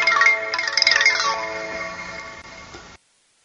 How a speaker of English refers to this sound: I have my phone going off. I'm sorry about that.